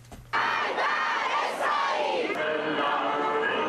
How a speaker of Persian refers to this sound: هزاران ایرانی امروز با به آتش کشیدن بیرق ایالات متحده و سر دادن شعارهای ضد آمریکایی از 36 سالگرد اشغال سفارت ایالات متحده در تهران تجلیل کردند.